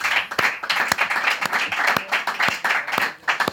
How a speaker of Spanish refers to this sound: Aplaudían.